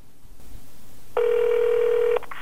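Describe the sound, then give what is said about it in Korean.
A single telephone ringback tone sounds for about a second, a steady electronic buzz heard as if through the handset, with faint background hiss and no talking, as a call is placed to a fellow North Korean defector to ask about unemployment benefits. “일단 실업급여가 있다는 걸 알려준 동료 탈북자에게 전화를 해서 물어보기로 합니다.”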